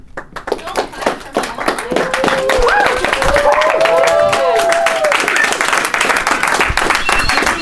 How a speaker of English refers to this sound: I don't know if they're clapping for you or clapping that I'm done.